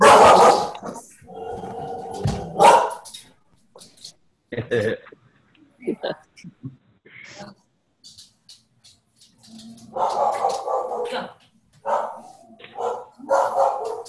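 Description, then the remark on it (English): A dog barks in clusters of sharp barks, a loud run at the start, scattered yips in the middle, then another busy burst near the end. “Dogs are fun.”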